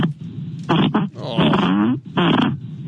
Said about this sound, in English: Keep the farts coming. Everybody reacts to it. And they pretend they don't love it, but they do because everybody loves farts.